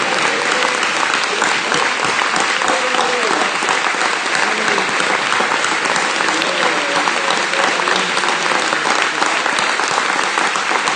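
Sustained, loud applause from a crowd giving the Lord a big hand in praise: a dense steady patter of many hands clapping for the full stretch, with faint voices mixed in beneath.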